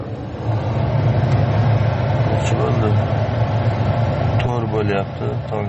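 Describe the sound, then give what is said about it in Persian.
A steady low engine rumble of cars idling in a queue to buy natural gas at 4 a.m. in Yaziyavan district, Fergana region, Uzbekistan, with faint voices in the background. “من این نوبت ماشین ها برای خریدن گاز طبیعی است.”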